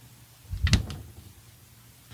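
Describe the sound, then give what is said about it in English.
A beer fridge door swings shut with a single solid thump and a brief rattle of glass inside, followed by quiet room tone. “Now I'm shutting the door to the beer fridge.”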